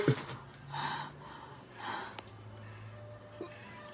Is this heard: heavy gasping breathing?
yes